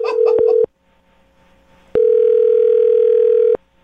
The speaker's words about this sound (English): All right, I just dialed the phone number. Hang on.